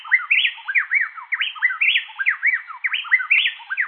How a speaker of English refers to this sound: These wrens cooperate to sing an amazing duet in which males and females alternate singing so rapidly that it sounds as if a single bird is singing